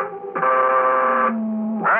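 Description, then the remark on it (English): An eerie electronic signal from outer space, picked up on a direction finder, with dense, buzzing harmonics holds steady, drops to a lower sustained drone, then swells again, like a strange warbling radio signal with no voices. “Those sounds, those waves are coming from outer space.”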